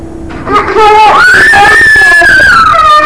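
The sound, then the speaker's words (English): A toddler girl, refused her bottle at the breakfast table, cries loudly in a sustained, high-pitched wail that starts with a few short whimpers, then swells upward in pitch and holds for about two seconds. “Maybe we should just let her cry.”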